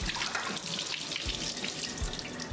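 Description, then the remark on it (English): Water from rehydrated Grid Down Chow Down freeze-dried beef is drained through a colander, a continuous bright splashing rush with no one speaking. “All right, we just have a colander here. I'm gonna pour that water through.”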